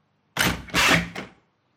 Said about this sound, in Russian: Алёша отворил дверь и шагнул через порог.